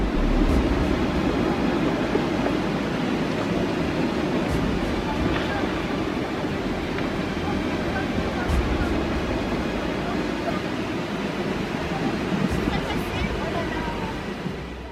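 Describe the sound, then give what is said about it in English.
A spring avalanche in the French Alps roars steadily into a stream at the bottom of a valley, a dense, continuous low rumble with a broad rushing hiss on top, loud and sustained throughout with no voices. “Brave climbers captured this classic spring avalanche in the French Alps on video.”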